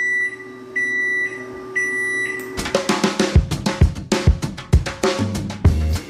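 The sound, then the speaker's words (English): A built-in microwave in Galveston, Texas, which beeped nonstop and really loudly for six weeks, beeps three times in a steady, evenly spaced rhythm with a bright electronic tone, loud, before busy clattering, percussive sounds take over. “My built-in microwave beeped nonstop, morning, noon, and night, really loudly for 6 weeks.”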